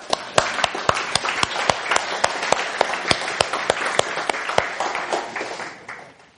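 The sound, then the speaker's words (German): Audience applause rings out for several seconds, with sharp individual claps standing out over a dense wash of clapping before it tapers off at the end. “Aber sie haben schon einen Applaus verdient.”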